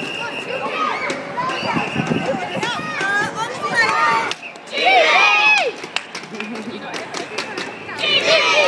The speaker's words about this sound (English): I must be with the noisiest kids. It's really lovely. Getting all ready for the parade to come down.